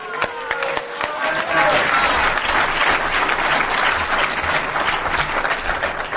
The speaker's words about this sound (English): Big applause.